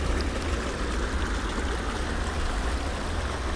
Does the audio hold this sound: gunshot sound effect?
no